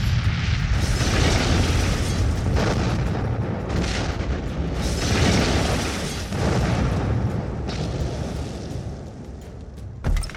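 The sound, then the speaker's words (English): A huge explosion rips through a house, starting in the back of the building and tearing through until flames and debris gout out of the front door. It roars for several seconds, a dense rumbling blast with crackling, tearing bursts that swell and ebb before a final sharp jolt. No one speaks. “both she and Untermensch silhouetted by a huge explosion that rips through the house behind them”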